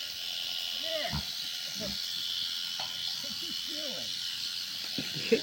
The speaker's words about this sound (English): This is probably not the most, this is a very vulnerable position for a sheep, but it's the way to shear them.